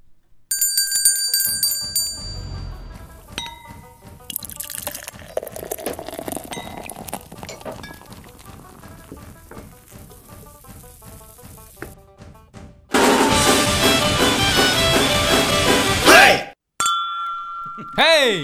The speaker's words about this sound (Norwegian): Ja, men vi tar det etter en bumper da. Ta det etter en bumper. Kjør en bumper.